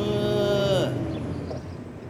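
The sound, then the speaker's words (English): A cow lets out one loud moo with a rich droning tone that slides downward as it ends, followed by a second of quieter outdoor background noise. “Let's swish and moo with Daisy Cow.”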